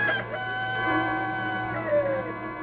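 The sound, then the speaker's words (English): A rooster crows in a long, drawn-out call that bends in pitch near the end, heard clear with no voices over it. “I tell thee, Peter, a cock will not crow this morning until you have denied me three times.”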